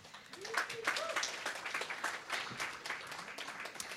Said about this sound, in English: I think it's really important to continue to show up for our communities and give yourselves a round of applause for showing up. So thank you.